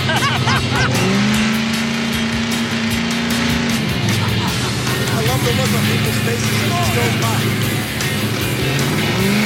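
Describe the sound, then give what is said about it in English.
A powerful car engine roars loudly and steadily, its pitch climbing and dropping as it revs while driving, with voices faintly audible beneath the engine noise. “I mean, I've been in some powerful cars in my time. Anything from Bugattis to you name it. But this thing is sick.”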